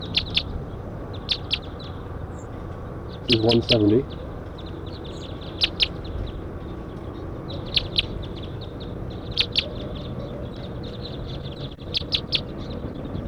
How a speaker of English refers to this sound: Pointing at 170, wild birds are flying around.